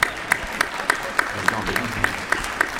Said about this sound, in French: Ah, mais si, on vous applaudit.